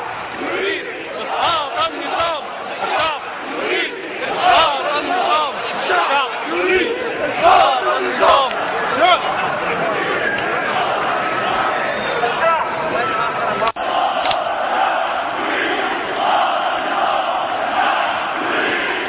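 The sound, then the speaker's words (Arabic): A large crowd at a peaceful protest sit-in chants and shouts together in loud, rhythmic waves that continue throughout, with many voices blending into a dense roar; the sound shifts abruptly partway through, as if the footage cuts. “بالبداية نشاهد الاعتصام الذي حصل أمس بكل سلمية.”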